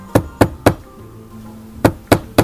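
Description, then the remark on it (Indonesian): Three young men knock on a door: two sets of three sharp knocks, evenly spaced, separated by a brief pause, with a faint low hum in the background and no voices. “Ibrahim dan Sarah sedang berbincang ketika tiga orang pemuda tampan mengetuk pintu.”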